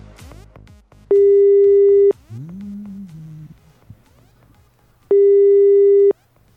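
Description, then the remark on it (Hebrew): A telephone line rings out as a shop's phone number is dialed: two steady, loud one-second ringback tones separated by a pause of several seconds, after a few faint clicks at the start that could be the number being dialed. “בואו נראה, יש מספר טלפון. בואו נחייג לחנות.”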